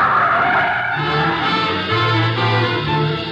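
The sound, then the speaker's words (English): A car skids loudly to a stop, tires screeching against the road over a low engine rumble, lasting a few seconds with no voices. “Stop the car.”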